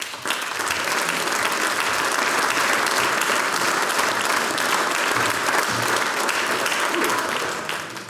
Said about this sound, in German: Mit einem großen Applaus begrüßen wir jetzt den Landtagsabgeordneten Hubert Lang.